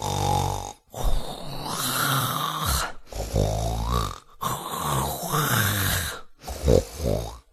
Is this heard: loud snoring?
yes